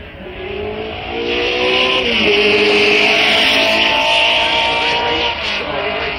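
A vintage 1962 Lola Climax racing car with fuel injection, a 6-speed Colotti gearbox and a weight of about 1,000 pounds roars loudly, its high buzzing engine whine sliding in pitch as it speeds past and carries on for several seconds, with no voices.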